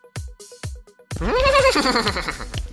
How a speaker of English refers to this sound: Oh my. Was that a horse? Was that a horse in the tub?